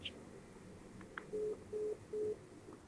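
A phone line's disconnect tone after a hang-up: three short, evenly spaced low beeps pulsing over faint line hiss, clear and close as if heard through the receiver, with no talking.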